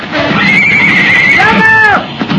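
A horse neighs loudly, a long high whinny that holds steady and then rises and falls, over a constant rough background noise with no clear hoofbeats.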